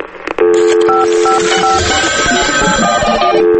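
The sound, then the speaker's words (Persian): A quick series of telephone dialing tones for Radio Farda's answering machine beeps in close succession, steady and fairly loud, with short pure tones changing pitch as keys are pressed, and no voices. “تلفن پیامگیر رادیو فرداست.”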